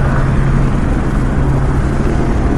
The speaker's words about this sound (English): Yeah. The helicopter is landing.